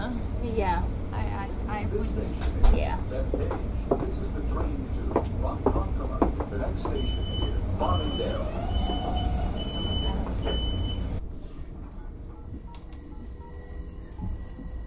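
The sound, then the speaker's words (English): Steady low rumble inside a moving train, with murmuring voices and clatter, a repeating high electronic beep midway, then the noise drops to a quieter hum. “Yeah, I forgot there are restrooms on the train, but”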